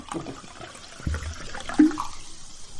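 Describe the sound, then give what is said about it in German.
Water and apple juice pour and splash into a glass, mixed into a spritzer, a steady gurgling stream with a brief clink partway through, then a soft fizzing tail as the pouring stops. “Das ist Saft, das ist Wasser. Ich nehme Wasser. Apfelsaft oder. Ah, dann mische ich es mir.”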